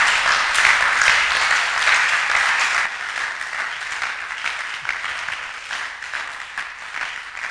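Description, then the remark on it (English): A crowd claps steadily and energetically, a dense wash of many hands that is loudest at the start and eases slightly after a few seconds while continuing to the end. “You to clap with some energy, enthusiasm, zeal, power.”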